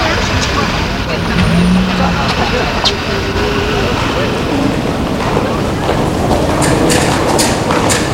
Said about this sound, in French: Il y a du monde dans le hall du métro. C'est la sortie des bureaux.